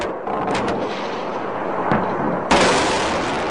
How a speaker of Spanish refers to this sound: Así sonaban los misiles que Estados Unidos lanzaba sobre Bagdad en 2003. Esos estallidos marcaban el fin del régimen de Saddam Hussein y el despegue de la región norte del país, el Kurdistán.